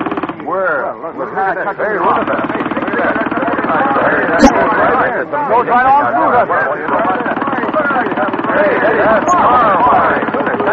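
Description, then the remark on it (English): A pneumatic air drill cuts into a big piece of rock with a loud, rapid, continuous chattering hammer that holds steady for about ten seconds, with indistinct voices faintly mixed into the racket. “This is five times faster than any drill I've ever seen or heard of.”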